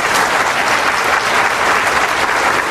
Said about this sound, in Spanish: Y es muy importante que tú lo digas, muy importante. Dale el aplauso al Señor, no te retengas.